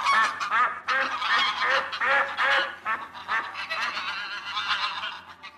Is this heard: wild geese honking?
yes